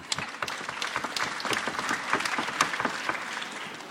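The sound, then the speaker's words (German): An audience claps steadily for a few seconds, a dense patter of many hands with sharp individual claps standing out, no voices rising above it. “Hat da jemand geklatscht? Können wir nochmal machen.”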